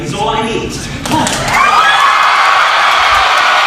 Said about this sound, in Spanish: esto en realidad son 45 segundos de ovación como si fuera Pavarotti